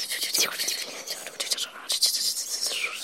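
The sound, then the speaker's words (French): Soft, airy whispering drifts from far off, a breathy, hissing murmur that swells and fades in uneven waves for a few seconds without any distinct words; it is the music the stars make in the universe. “Un son étrange, une sorte de chuchotis qui viendrait de très loin, un bruit de fond à peine perceptible, même pour quelqu'un comme lui.”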